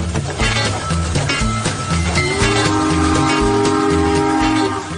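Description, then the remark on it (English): A loud train sound effect: heavy, rhythmic chugging throughout, with a sustained whistle blast joining about halfway through and holding to the end. No voices. “Welcome aboard. No, I'm kidding. We're not a circus train.”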